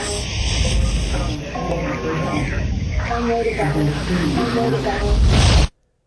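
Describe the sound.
Steady, loud white noise hiss runs for about five and a half seconds, with faint, garbled voices buried inside the static, then cuts off abruptly into silence; from a trailer for the feature film White Noise, about electronic voice phenomenon.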